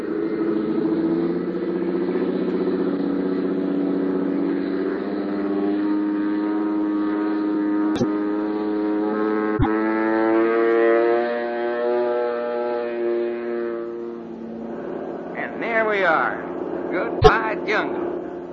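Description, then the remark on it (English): A small propeller plane's engine drones steadily as it takes off, with strong harmonic tones, holding a smooth, even pitch before thinning out near the end, where a few sharp clicks and brief voice-like sounds break in. “Running like a sewing machine.”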